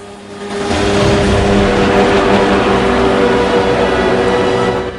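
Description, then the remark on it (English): Inflatable dinghies, dropped from a helicopter into the sea, speed off with men aboard, their outboard motors swelling quickly into a loud, steady roar with a humming, buzzy engine tone that holds throughout. No voices are heard. “They speed off in the dinghies.”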